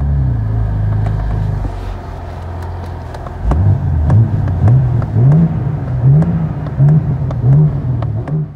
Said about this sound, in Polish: Tak, to jest to auto, można sobie przegazować, otworzyć dach i ono będzie się idealnie w takich warunkach sprawdzało.